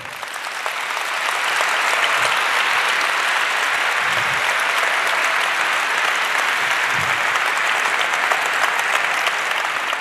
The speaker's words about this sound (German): Unser nächster Talk, die Lauschprogramme der Geheimdienste, präsentiert von Hans-Christian Ströbele und Constanze Kurz. Einen kleinen Applaus dafür.